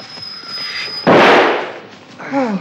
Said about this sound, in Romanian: A tras cineva în spatele meu.